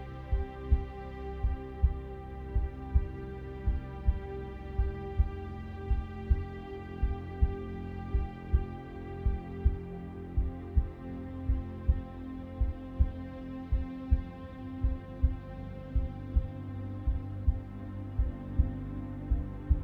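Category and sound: sound effect, heartbeat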